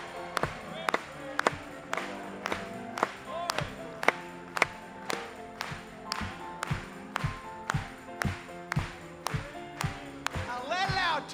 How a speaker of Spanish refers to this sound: Vamos a aplaudirle. Ahora sí.